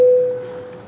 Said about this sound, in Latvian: Deputāti vēlas balsot, lūdzu zvanu.